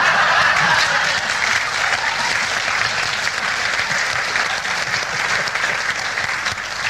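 Sustained audience applause fills the whole stretch, a dense, steady patter of many hands clapping at once, loud, with no voices rising above it.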